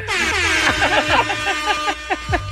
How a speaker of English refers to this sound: A lot of horns. Remember the Vuvuzela times? Yes.